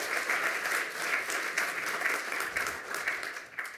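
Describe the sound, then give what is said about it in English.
An audience claps steadily for a presenter who was the first speaker of the day, a dense, crackling wash of many hands at a moderate level, thinning slightly toward the end with no voices over it. “Give him another round of applause for being the first today and having so many slides.”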